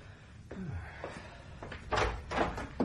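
door opening

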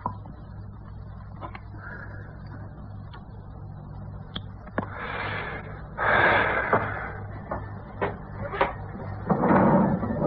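drawer being opened

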